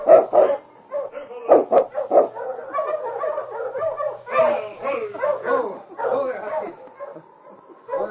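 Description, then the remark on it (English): Husky sled dog teams bark and yip in an excited, overlapping chorus as they approach, with sharp bursts at the start giving way to a steady stream of barking that carries on throughout. “A short time later, he heard the dog teams coming and saw Sergeant Preston and the constable in the distance.”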